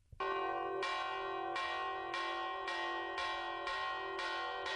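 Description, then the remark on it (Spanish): A recreation of the old 'toque de quema' fire alarm toll, once rung by all the church bells of Madrid to call the city for help: church bells ring a rapid, urgent toll, strikes repeating roughly every half-second to second with rich, lingering overtones, loud and continuous with no voices. “todas, tañeron el llamado toque de quema, pidiendo ayuda a toda la ciudad. Hemos encontrado una recreación de aquel antiguo toque.”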